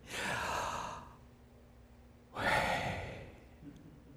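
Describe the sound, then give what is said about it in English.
Two long, exaggerated breaths, a drawn-out airy inhale followed after a pause by a strong, breathy exhale, with no talking. “It's just like breathing.”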